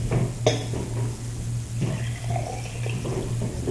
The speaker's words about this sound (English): Okay, would you please pour the water in the yellow cup, yes. please?